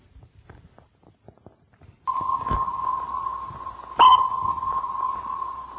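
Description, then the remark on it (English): A sonar-style ping sound effect, played during a church sermon, rings out as a steady tone that sustains and reverberates, with a second sharper ping partway through. Soft faint footstep-like taps come before it. “Would you play that ping again for me, please?”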